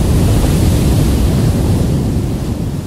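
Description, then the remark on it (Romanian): A steady, loud roar of Black Sea waves breaking on the shore on a rough morning with a swell, a dense continuous rush of surf with low rumbling and no distinct pauses, with no voices. “Păi ascultă cum se spar valurile.”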